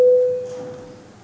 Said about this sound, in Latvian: Lūdzu zvanu.